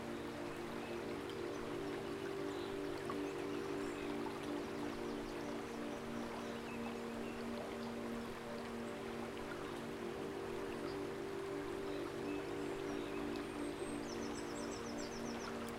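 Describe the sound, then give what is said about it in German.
Steady, continuous rush of flowing river water at moderate level, with a low humming drone underneath and faint high chirps near the end; no one speaks. “Spürst, wie der Fluss dir neue Kraft schenkt, wie er deine Haut vom Schweiß und Schmutz der Wanderung reinigt und auch all deine Sorgen und Ängste hinwegspült.”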